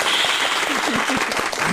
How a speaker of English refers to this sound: Yay! Clapping. Yay! Yay! And the cloud goes roar.